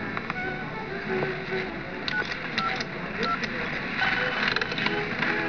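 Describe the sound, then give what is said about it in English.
A telephone number is dialed to call the police: a series of short keypad beeps tapped out in an uneven sequence, heard over a steady, busy background with faint murmuring. “As a matter of fact, I'll call them myself.”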